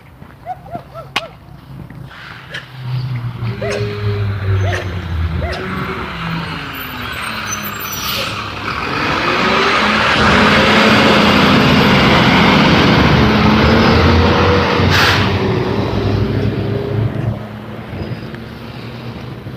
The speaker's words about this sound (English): Garbage truck going by. Sure sign of spring.